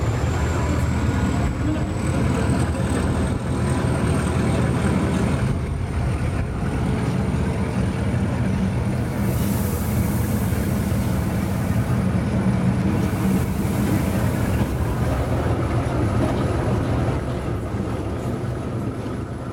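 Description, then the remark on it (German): A museum train pulls away from the station at 14:10 with a loud, steady mechanical rumble throughout, a thin high whine running above it and brief hissing bursts midway, with no voices. “Der Zeiger an der roten Bahnhofsuhr springt auf 14.10 Uhr. Unser Museumszug fährt ab.”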